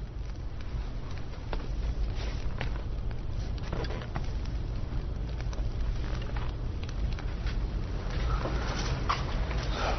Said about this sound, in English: You like the fire, John? Everywhere I've lived, I've had a fireplace.